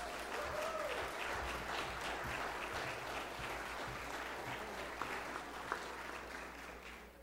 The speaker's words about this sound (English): Can we get a round of applause for